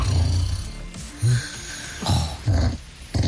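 A man snoring in low, rumbling bursts, several short snorts repeating at irregular intervals, fairly close and loud against a quiet background with no talking.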